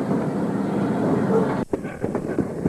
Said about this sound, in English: Seaboard Coastline Diesel engine number 1644 is finally hooking up the last of the operation. It's hooking steam engine number 11 up to the baggage car and two Pullmans.